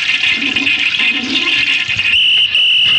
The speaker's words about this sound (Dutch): Eruit, het bad lekt. Oh, wat jammer.